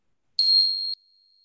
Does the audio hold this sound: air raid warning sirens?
no